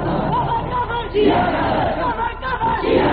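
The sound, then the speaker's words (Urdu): A large crowd chants the slogan "Kafir, Kafir" in unison, loud and steady, with voices surging in repeated rhythmic bursts separated by brief dips, the massed shouting blending into a dense roar. “جب ہم دیکھیں گے تو ہم کہیں گے اللہ میاں ستائے صحابہ والوں کو جمع کر کے کافر کافر کا نعرہ لگا لینے.”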